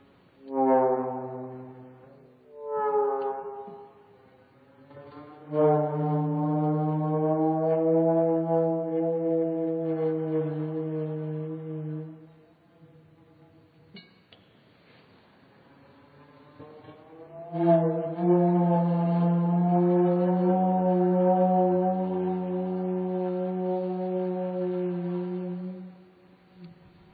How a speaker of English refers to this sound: this organ had been going to be quite mechanized, each note operated via a lever which would lower the tube down onto the flame, but I found that there were two or three different ways in which the flame could act on the gauze.